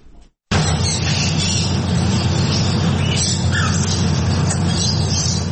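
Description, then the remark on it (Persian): A dense, continuous chorus of about 110 birds, including canaries of various colors and talking parrots, chirping and twittering inside a tea house in Bangkok, Thailand, loud, over a steady busy room hum after a brief quiet start. “یکصد و ده پرنده زیر یک سقف با مشتریان، ابتکار جالبی که از سوی مالک یک چایخانه در بنکاک پایتخت تایلند صورت گرفته.”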